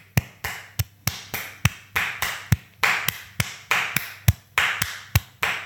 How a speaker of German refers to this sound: Ich mach erst einen Wiener Walzer. Der ist schöner. Dann klatschen wir mal einen Wiener Tanzer. Wiener Walzer.